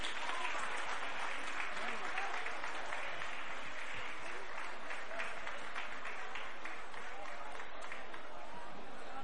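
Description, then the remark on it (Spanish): Sustained audience applause fills the whole stretch, a dense wash of many hands clapping steadily at a fairly even level, with a faint murmur of voices mixed into the crowd noise. “Pido un fuerte aplauso para ella, por favor.”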